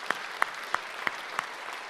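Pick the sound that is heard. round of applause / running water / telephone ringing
round of applause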